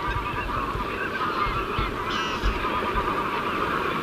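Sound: geese honking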